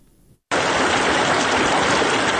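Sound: flowing river water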